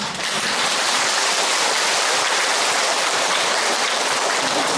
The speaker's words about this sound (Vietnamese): Các vị ở đây á, rất là đẹp, đã vỗ tay rồi còn cười nữa. Tặng cho sư những chàng vỗ tay rồi còn tặng cho sư nụ cười.